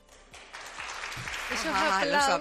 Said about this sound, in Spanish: Esos aplausos de las Hermanas de la Cruz ante este importante anuncio, que es uno de los asuntos, ¿verdad?